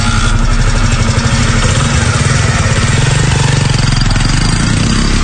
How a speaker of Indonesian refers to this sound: Setelah memanaskan motor, aku pun langsung tancap gas menuju alun-alun kota Sorea.